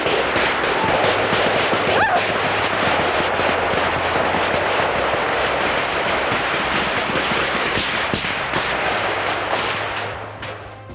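gunfire

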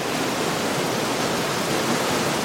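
flowing river water

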